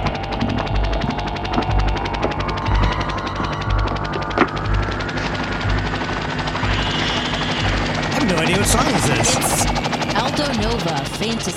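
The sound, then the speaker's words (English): A helicopter's rotor thumps in a steady, fast rhythm, loud and continuous, with sharp rattling bursts like gunfire and indistinct voices mixed into the busy, dramatic soundtrack of a show's intro. “Oh man, I remember like the helicopter.”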